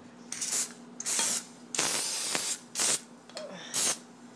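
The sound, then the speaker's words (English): Five short hissing bursts from an aerosol spray can sprayed onto the top of a pan with a flat lid, each lasting about half a second with a longer one in the middle, fairly loud with brief pauses between. “Okay, now I'm going to spray the top of the pan.”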